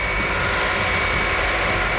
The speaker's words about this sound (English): That's when they heard it. The distant but unmistakable sound of the C-5's whining engines. Gradually, the jet noise got louder until it was almost overhead.